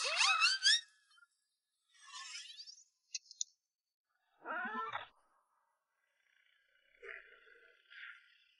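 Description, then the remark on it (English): A young female leopard cub of the Panthera pardus namir species, found in the mountains, mews in a handful of thin, high-pitched cries separated by short pauses, some rising and some falling, with the final calls fainter. “She's just an ordinary little kitten, that's all.”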